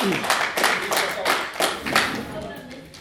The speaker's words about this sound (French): Vous applaudissez juste avant mon premier message